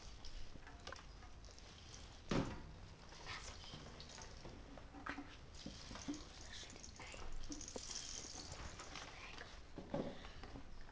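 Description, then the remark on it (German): Water splashes and sloshes steadily throughout as dolphins swim and churn the surface, with a sharper splash early on and occasional louder surges. “Die Delfine schwimmen im Wasser.”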